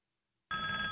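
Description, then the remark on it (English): After half a second of silence, a loud electronic telephone-style ringtone from an iPad abruptly starts and holds steady, a bright, buzzy tone with no voices, as the iPad rings with a call its owner placed to himself. “So that's my iPad ringing.”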